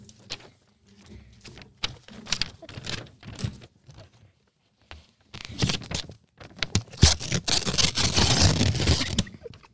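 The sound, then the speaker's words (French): Paper being handled, a page of sheets: scattered soft taps and brief crinkles at first, then a stretch of dense, continuous rustling and crumpling that grows louder toward the end. No one speaks. “Je vais commencer avec une page de feuilles.”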